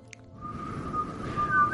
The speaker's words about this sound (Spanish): Joder, es que no sé silbar bien. No, me ha salido mal ahí.